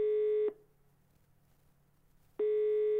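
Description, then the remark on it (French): A telephone ringback tone sounds twice, two steady electronic buzzy bursts separated by a pause of about two seconds, clear with no voices, as a man phones the organisers of a trade forum in Paris. “Monsieur Gauthier téléphone à l'organisation du Forum Convergence à Paris.”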